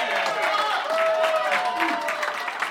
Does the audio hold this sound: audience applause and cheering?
yes